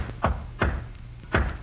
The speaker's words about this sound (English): When you bring my meals, knock 3 times, then once. What is that, sir? Knock 3 times, then once, like this.